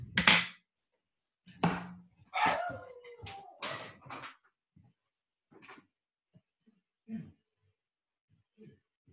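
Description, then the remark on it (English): A dog named Finley barks, a handful of loud, sharp barks in quick bursts over the first few seconds, then only faint, scattered sounds trailing off into near silence. “So, oh my God, dog. Give me 1 second.”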